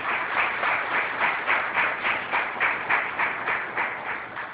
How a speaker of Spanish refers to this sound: Le voy a pedir que se ponga de pie, por favor, para que le demos su merecido aplauso.